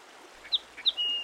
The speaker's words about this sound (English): There's a songbird in the small trees over there. Let's get a little closer.